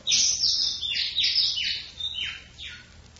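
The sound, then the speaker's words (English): A bird at a window chirps loudly and repeatedly, sharp descending high-pitched tweets in quick succession, with no talking. “For the last time, are you going to get away from that window?”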